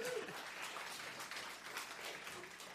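An audience breaks into steady applause, a dense crackle of many hands clapping together that holds evenly for a few seconds, with a brief voice-like tone at the very start.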